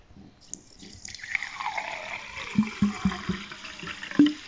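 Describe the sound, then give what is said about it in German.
Water pours steadily into a glass for drinking for a few seconds, followed by several soft, low knocks or gulps near the end, with no talking. “Wenn ich ein paar meiner Aufgaben erledigt habe, mache ich eine Pause und trinke ein Glas Wasser.”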